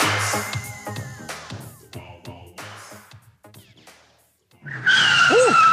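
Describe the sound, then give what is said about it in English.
After a busy, fading stretch and a brief silence, car brakes screech and tires skid with a loud, piercing, wavering squeal that holds to the end, in a radio advertisement for brake service at Muffler World on Mackey Street. “If you set people's seats on edge every time you step on the brakes, it's time you visit Muffler World on Mackey Street.”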